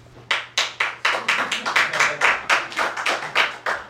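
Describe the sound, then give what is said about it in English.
Applause at a meeting: steady, evenly spaced hand claps, about four per second, loud and crisp, with a low hum underneath and no voices. “They can applaud and we can relax.”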